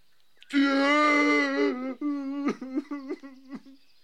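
A loud, drawn-out wail rises, then breaks into a series of short, choppy sobs that gradually trail off.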